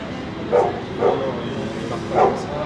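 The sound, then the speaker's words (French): A drug detection dog barks three times at uneven intervals, with a fainter fourth bark, against a steady background hum, signalling on a bag being checked for narcotics. No voices are heard. “Oui, mais, non, mais madame, le chien ne marque pas les cakes à la banane, il marque les stupéfiants.”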